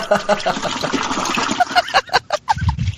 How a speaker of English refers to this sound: you would think that's the first time you'd heard a toilet flush on the Place to Be Nation